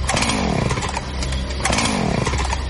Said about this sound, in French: Regarde dehors. Il y a un monsieur bizarre avec une scie mécanique et un masque.